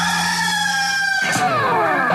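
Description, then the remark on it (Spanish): A rooster crows once, loud: a sustained nasal call that breaks into a falling, drawn-out tail, with no one talking. “¡Este es el gallo!”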